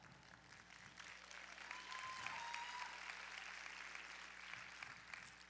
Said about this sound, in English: Girls, am I right? Yeah, that's a pretty weak clap.